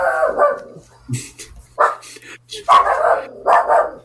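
A dog barks in several short, sharp bursts spread irregularly across a few seconds, moderately loud, with brief quiet gaps between the barks, heard through a call participant's unmuted microphone.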